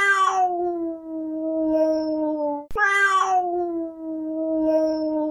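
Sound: cat meowing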